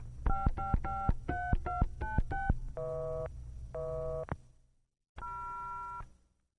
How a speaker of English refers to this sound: The line's busy and I'm a little worried about her. Could you break into the call, please?